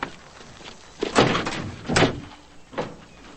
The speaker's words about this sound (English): He heads around the vehicle and gets in behind the wheel. As Pablo closes the car door, Joe opens the passenger side.